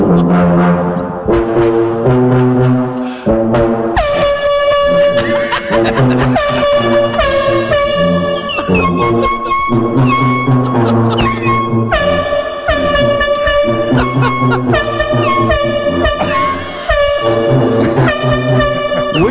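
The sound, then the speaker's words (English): A loud air horn blares a melody in sustained, brassy blasts while a low tuba pumps out a bouncing bass line beneath it, the pair playing a rowdy tune together to wake a sleeping person, with no talking. “It's air horn and tuba.”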